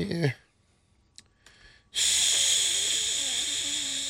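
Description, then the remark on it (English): A short breath, then a loud, steady hiss lasting about two seconds: a voice imitating food sizzling in a pan, said of the 2-6 Las Vegas Raiders not being cooked yet. “No, that's sizzling.”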